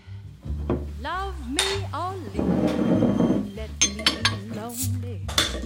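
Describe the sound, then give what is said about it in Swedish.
Several sharp glassy clinks ring out amid light tabletop clatter as glasses of alcohol-free drinks are raised in a toast, while voices talk steadily underneath. “Jag har alltså ingen alkohol i den. De är alkoholfria. Skål på dig.”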